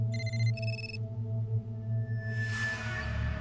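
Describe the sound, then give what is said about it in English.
A cell phone rings on a briefing room table with two quick bursts of bright electronic trilling tones over a steady low hum, followed by a soft swelling whoosh. No one speaks. “Saunders' cell phone rings on the briefing room table.”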